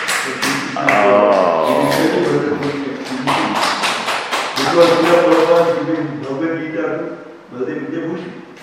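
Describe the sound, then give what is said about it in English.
Steady, rhythmic clapping from an audience after a Bhagavatam class, sharp repeated claps that blend with voices talking or chanting over them throughout. “And one of the best class, and we must clap.”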